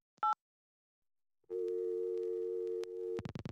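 A brief keypad beep, a moment of silence, then a steady, buzzy telephone ringing tone holds for nearly two seconds before breaking into quick stuttering pulses. No voices.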